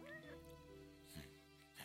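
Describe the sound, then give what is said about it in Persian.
A cat lets out a short meow near the start, its pitch rising then falling, followed by a steady low background hum with faint voice-like murmurs. “گربه هرم آوردی تو؟ آره میخوام نگهش دارم.”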